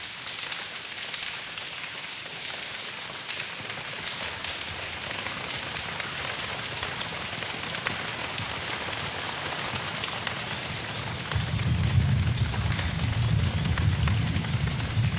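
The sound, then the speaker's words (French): A steady, dense patter like heavy rainfall, produced by many feet drumming on a wooden stage in a church to imitate rain, swells near the end with a deeper, rumbling low thump underneath. No talking. “Donc ça, c'est fait avec leurs pieds en tapant sur l'estrade.”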